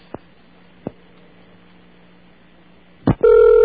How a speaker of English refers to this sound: Now, you'll hear what we call a bong, which is a... Also, it's an instrument for smoking, but in this case, it's a symbol to enter your credit card number.